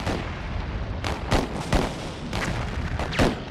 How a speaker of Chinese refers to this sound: 而同时，港口对面的邦联炮舰亦做好准备，他们的炮声就是开战的信号，港口周围的其他炮舰会一起投入战斗。